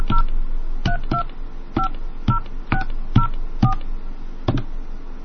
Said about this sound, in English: Okay, so we're calling the Old School Freak phone card.